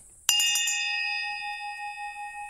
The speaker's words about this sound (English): Please ring the bell. All right, I'll give the bell a ring and see if anyone shows up.